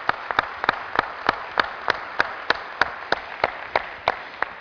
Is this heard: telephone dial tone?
no